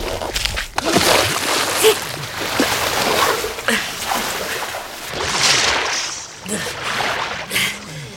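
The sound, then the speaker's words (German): A man wades through icy-cold water, sloshing and splashing continuously, with irregular surges and bursts of churning, fairly loud throughout. “Sie müssen sofort raus aus dem Wasser, sonst erfrieren Sie.”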